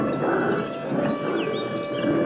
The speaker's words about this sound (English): Then, from somewhere in the trees, the wolves heard a growl.